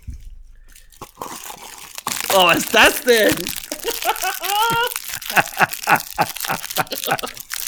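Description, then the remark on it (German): Packaging crinkles and crackles in a steady, rustling stream, with a voice briefly exclaiming over the noise partway through. “Ein Knister-Gegenangriff.”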